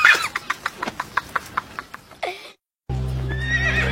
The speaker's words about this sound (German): Das war ich. Ich habe das Pferd zum Springen gebracht.